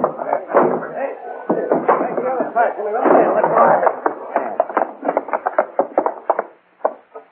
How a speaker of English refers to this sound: Push the door in.